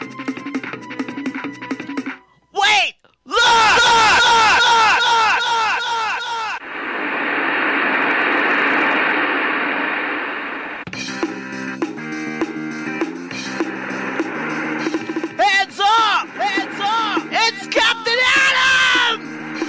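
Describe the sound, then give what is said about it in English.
Loud, frantic screams and yells from several voices of a crowd outside the burning Dixie Hotel, broken by a stretch of dense roaring noise, then more overlapping shrieks and shouts, like a panicked crowd. “Captain Adam flies above the crowd outside the burning Dixie Hotel.”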